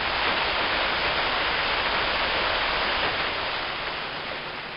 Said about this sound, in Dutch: De wind draaide naar het zuidwesten en voerde zware wolkgevaarten aan, waaruit al spoedig regen begon te vallen.